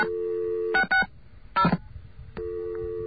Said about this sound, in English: Okay, I think I have a secondary dial tone there. I don't think that's the same dial tone, so I'm going to dial some numbers.